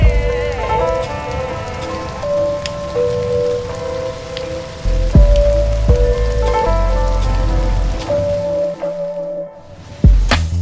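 Steady rain patters across a surface, a dense, continuous hiss with scattered louder drops, while faint sustained tones hum underneath; the sound briefly thins out near the end before returning.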